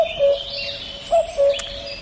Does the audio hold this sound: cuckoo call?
yes